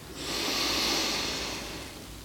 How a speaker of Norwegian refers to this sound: Då börjar jag att pusta in. Och ut. Pust in en gång till.